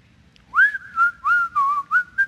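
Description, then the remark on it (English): Someone whistles a short, cheerful melody, clear, in five connected phrases that glide and step between a few pitches. No talking. “I remember reading this when I was going to work in the secular field years ago, and I'd come in on a Monday morning whistling.”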